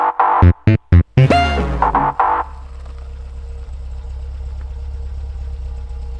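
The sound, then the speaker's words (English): A two-seater car's engine cranks with a few choppy bursts, roars up in a loud rising rev, then settles into a steady, low, rumbling idle that continues to the end with no voices. “We'll take my car.”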